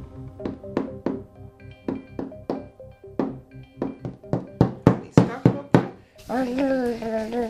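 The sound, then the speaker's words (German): A child pounds on play dough with a quick run of about fifteen dull knocks, steady, growing louder toward the end before a voice briefly speaks. “Galissa tut da mit dem Knetsch spielen und im Moment tut sie klopfen”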